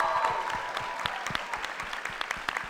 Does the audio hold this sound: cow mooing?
no